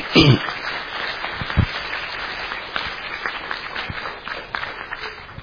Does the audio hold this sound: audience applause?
yes